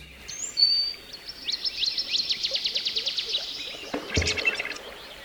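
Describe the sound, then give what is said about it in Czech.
Forest sounds from the website tree.fm: a high whistled bird note, then a rapid series of bright, rhythmic chirps, followed by a burst of twittering, all over a soft, steady background hush. “A tentokrát jsem našel stránku tree.fm, kde můžete poslouchat zvuky lesů po celém světě.”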